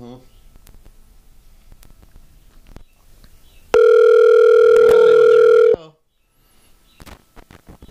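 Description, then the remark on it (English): A loud, steady dial tone from an old telephone hums for about two seconds, broken by a couple of sharp clicks like buttons being pressed to dial a number, after quiet muffled rustling and faint indistinct voices. “Plug it into the old telephone. Push the old number.”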